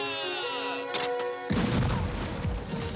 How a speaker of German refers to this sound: Und es war tatsächlich so, dass die Militärs ihre Uhren extra abgeglichen hatten vorher, bevor sie losgezogen waren, dass auch ja in derselben Minute der Schuss abgegeben wird. Dann endlich 12 Uhr.